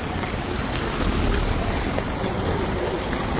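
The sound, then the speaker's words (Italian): Steady rain, finally falling after very hot weather, heard during a walk in the rain, in a dense, continuous hiss and patter, holding an even loudness for the few seconds with no voices and no breaks. “Come sentite, sta piovendo finalmente.”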